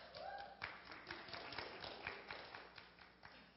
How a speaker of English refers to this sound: I'm confused. Texas and North Carolina don't get applause, but New York does. New York, really?